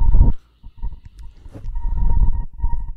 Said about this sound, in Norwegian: Hvis den her T-banelinja på utsiden ikke stopper å ule, så...